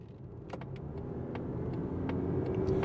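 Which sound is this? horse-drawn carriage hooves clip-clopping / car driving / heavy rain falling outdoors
car driving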